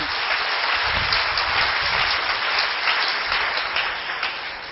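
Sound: audience applause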